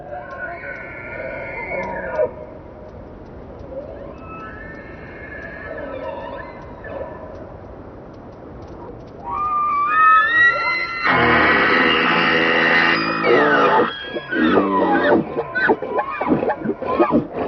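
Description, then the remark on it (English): A male elk bugles in Yellowstone in autumn, challenging other males for dominance: a high, rising whistle that breaks into a harsh, loud scream followed by rough grunting, with fainter earlier calls echoing. “Fueled by testosterone, the bugle call of this male elk is a boast of his strength.”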